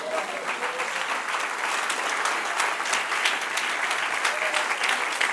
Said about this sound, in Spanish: Denle un aplauso al que vive.